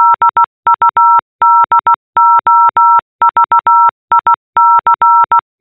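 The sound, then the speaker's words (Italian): Morse code beeps spelling out a name: a steady electronic tone switching on and off in quick dots and longer dashes, grouped with short pauses between letters, clear with no voices. “questo è il mio nome in codice Morse.”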